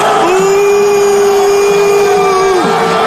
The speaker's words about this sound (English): When he took his sons to that UFC fight this week, and according to Fox News, was cheers and boos. CNN described it as boos and cheers.